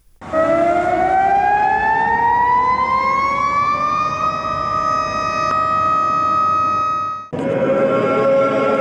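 Loud air-raid sirens wail steadily at noon in Belgrade, marking a minute of silence for those killed and expelled in Operation Storm on its 21st anniversary; a sustained tone slowly rises in pitch before briefly cutting off and resuming, with no voices present.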